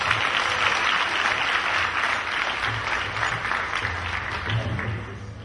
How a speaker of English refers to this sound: Let's hear it for a round of applause for Maharaj.